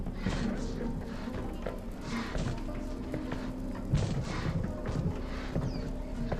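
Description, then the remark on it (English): Heavy, irregular thudding footsteps with scraping, clattering impacts as a large creature climbs the outer wall of a cabin and onto the porch roof, over a steady low background rumble. “Their eyes slowly raise upwards as the creature appears to climb the outer wall and onto the porch roof.”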